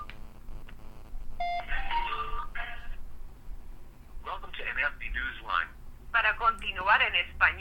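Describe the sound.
An outgoing phone call rings through the phone's small speakerphone in repeated electronic bursts, moderately loud and slightly tinny, with short pauses between the rings and a faint hum underneath.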